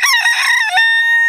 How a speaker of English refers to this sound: Cock-a-doodle-doo!